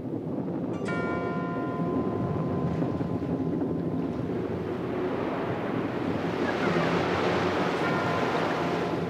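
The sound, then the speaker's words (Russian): Rough stormy sea surges and roars steadily with wind, beating against a tiny rocky crag and throwing up spray, the waves swelling louder and crashing harder toward the end. No voices, just the continuous churn of stormy water. “Море бешено билось об него и окатывало их целым дождем брызг.”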